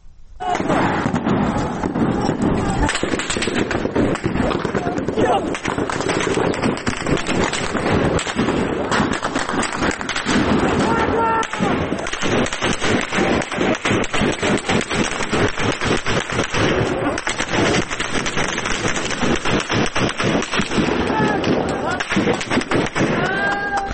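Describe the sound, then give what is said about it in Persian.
Heavy gunfire aimed at protesters during a street protest in Piranshahr: dense, rapid volleys of loud sharp shots crackle almost nonstop, with agitated voices shouting beneath the shooting. “در پیرانشهر هم ویدیوی نیم ساعت پیش منتشر شد که در اونها کاملا مشخصه که به سمت معترضان تیراندازی داره صورت میگیره و حجم تیراندازی هم بسیار بالا مشهود هست در ویدیو که الان حالا صداش هم میتونیم بشنویم.”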